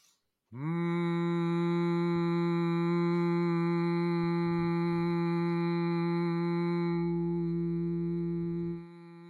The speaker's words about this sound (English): And what conscious humming is taking some nice deep breaths and then just humming on a tone that is comfortable to you and your sort of speaking voice. So I'll just give you an example.